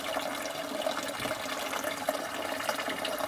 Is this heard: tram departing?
no